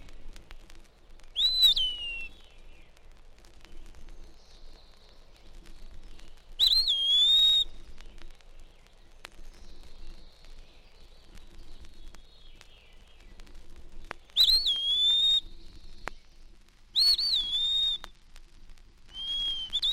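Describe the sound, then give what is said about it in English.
A wood pewee sings its clear, slurred whistled phrases continuously at daybreak, each note rising and falling, with short pauses between, over a quiet outdoor background with faint birds. “All day, the wood peewee calls its name at intervals, but at daybreak, it sings continuously.”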